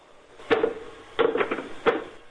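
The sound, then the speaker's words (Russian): Knocking on a wooden door: a single knock, then a quick cluster of three, then one more, moderately loud, with no one talking. “Раздался стук в дверь.”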